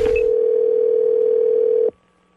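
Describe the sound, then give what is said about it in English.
A steady, unbroken telephone dial tone hums at an even level for nearly two seconds after a brief click of pickup, as a call is placed to someone advertising a month of free car washes with every home purchase, then cuts off abruptly, leaving quiet line noise. “So I give him a call as somebody who's willing to just buy a house because I really need a car wash.”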